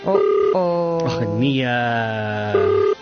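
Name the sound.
outgoing phone call ringing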